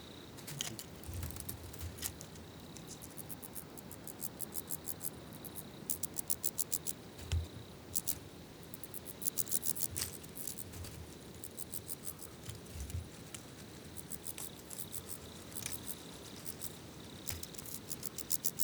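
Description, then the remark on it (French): Soft, distant chirping of wood crickets forms a steady background murmur, with occasional sharper clicking bursts in the foreground and no voices. “On entend aussi en rumeur derrière, un peu plus éloigné, des grillons des bois.”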